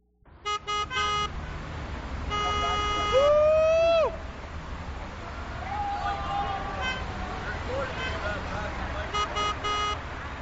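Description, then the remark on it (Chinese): Busy city street traffic hums steadily as night falls, while car horns honk repeatedly, some in quick clustered toots and one longer, wavering blast, with indistinct voices mixed into the city din. “在一片烦人的汽车喇叭声、反复的流行歌曲声和旁若无人的喊声中，夜晚最终降临到了这个城市。”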